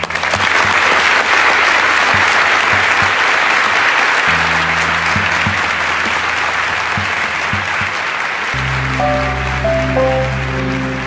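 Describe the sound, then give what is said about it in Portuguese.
Sustained applause from the Jornal Nacional newsroom staff, standing together, in tribute to the Chapecoense players, coaching staff, directors and journalists who died: dense and steady throughout, with a low sustained musical tone swelling underneath partway through and a soft melodic line entering near the end. “Todos nós, aqui na redação do Jornal Nacional, de pé, juntos, damos uma salva de palmas.”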